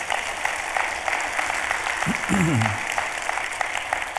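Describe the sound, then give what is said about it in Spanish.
An audience applauds God for his mercy in a steady, dense clatter of many hands that fills the whole moment, with a single voice briefly calling out over it partway through. “Den un aplauso a Dios por su misericordia.”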